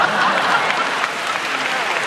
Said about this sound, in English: Men says what women want to hear and use a specific keyword, slavery. Crowd claps.